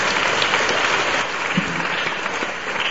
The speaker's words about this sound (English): So let us give a clap for him. Takže zatleskejme Ježíši.